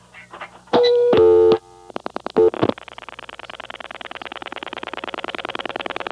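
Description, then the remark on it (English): A loud, steady telephone dial tone sounds briefly, followed by a quick series of rapid clicks from a rotary dial pulsing out the digit 5, then a long train of evenly spaced pulses trailing off. “Okay, I dialed 5.”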